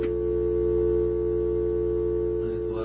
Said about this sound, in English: Bring the phone up? Yeah. I hear a dial tone and a hum.